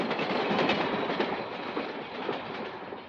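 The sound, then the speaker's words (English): A train rumbles past through an office, a steady, dense roar of wheels and carriages with faint clattering, loud throughout and easing only slightly toward the end. “The train came right through my office.”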